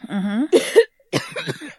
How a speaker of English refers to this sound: And then, you know, when you get hot and you cough?